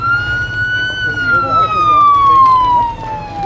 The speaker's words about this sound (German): Macht Platz für die Feuerwehr!